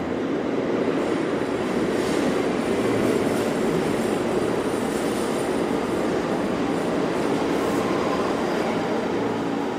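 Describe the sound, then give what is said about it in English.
A train rolls past on the rails with a steady, loud rumble that holds the whole time, broad rattling roar and faint metallic hiss on top, no voices. “The steel ran south and north, presumably, springing from some inconceivable source and shooting toward a miraculous terminus.”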